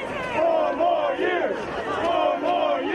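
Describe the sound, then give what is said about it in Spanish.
A large crowd of Donald Trump supporters chants and shouts in unison at a political rally in Washington, D.C., shouting that there is still no president-elect, voices rising and falling in a steady rhythmic cadence, loud. “Aplaudidos por el propio mandatario que salió a saludarlos desde su auto, sus partidarios gritan que aún no hay presidente electo.”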